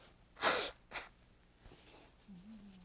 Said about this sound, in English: let me just blow my nose.